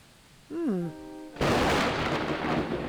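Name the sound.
thunder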